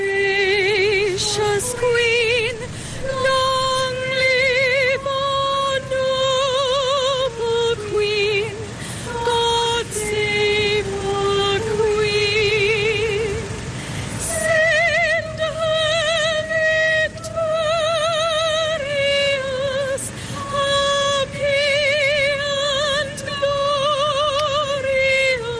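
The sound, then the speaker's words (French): The British national anthem, God Save the Queen, rings out over loudspeakers at Silverstone as drivers line up before a motor race. It is a slow, stately melody with sustained notes and broad band accompaniment, loud and reverberant as if played across an open outdoor venue, with no talking. “Allez, on va l'écouter un petit peu, ce God Save the Queen, évidemment, l'hymne qui a un retentissement particulier ici à Silverstone.”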